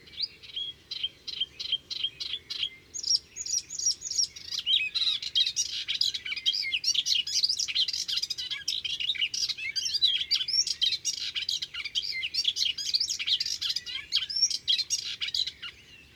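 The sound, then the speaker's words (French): A Hippolais warbler, perched calmly at the tip of a twig, sings a rapid, frenzied song that opens with a few repeated simple notes imitating calls of sparrows, redstarts, swallows, blackbirds or starlings, then bursts into a dense, continuous jumble of high chirps and trills, clear with no voices. “L'oiseau semble calme sur son perchoir, mais son chant est vraiment surexcité.”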